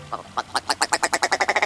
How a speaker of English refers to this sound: With its rubbery-sounding rattles and clownish red eyebrows, the ptarmigan is quite the standout northern bird. And it's particularly well-adapted to wintertime in the snowy realms it calls home.